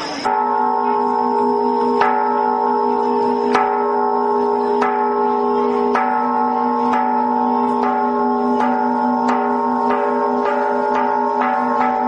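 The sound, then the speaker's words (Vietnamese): A large Buddhist temple bell, the Bát Nhã bell, rung in three rounds before the homage to the Three Jewels that opens a memorial ceremony. It is struck again and again, each stroke sending out a deep, sustained ringing hum, with the strikes coming gradually faster. No one speaks. “Vào giờ này ban tổ chức đề nghị ban nghi lễ cử 3 hồi chuông bát nhã để chuẩn bị lễ bái tam bảo khai mạc chương trình lễ quý nhật sáng hôm nay.”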